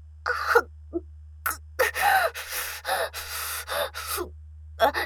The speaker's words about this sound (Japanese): しゃっくりかな。出そうになっちゃう。一回出ると、すぐには止まんないよね。